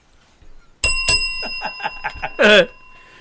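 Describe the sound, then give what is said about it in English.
A bell is struck twice in quick succession, and its bright metallic tone keeps ringing and slowly fading while muffled voices murmur underneath. “You can move the bell, dude.”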